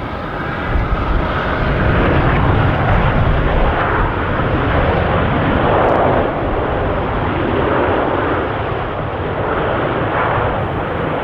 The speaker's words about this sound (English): Have you ever been on a plane before? You must be familiar with that sound.